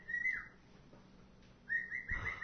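A bird sings in short, bright whistled phrases, one burst at the start and a longer run of repeated chirpy notes near the end, with a quiet gap between.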